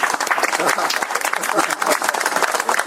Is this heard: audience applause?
yes